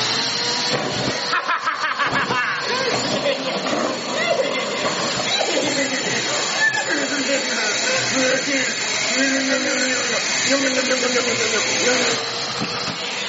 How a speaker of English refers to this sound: It's a vacuum and you're gonna suck all this up.